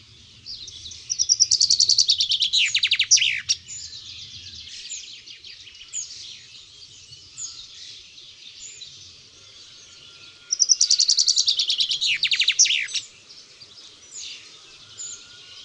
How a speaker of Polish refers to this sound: Krótka i melodyjna zwrotka zięby trwa 2-3 sekundy i powtarzana jest co kilka sekund, nawet kilkadziesiąt razy z rzędu.